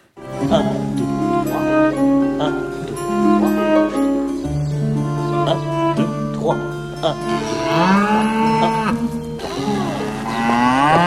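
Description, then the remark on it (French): Loud, drawn-out cow moos with swooping pitch break in over steady instrumental music during a dance and music lesson, the lowing swelling near the end of the passage. “mais aussi des animaux assez artificialisés aussi quand ils pénètrent dans la cour, telle la vache qu'on voit ici surgir dans une leçon de danse et de musique.”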